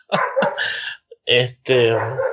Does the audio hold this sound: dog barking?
yes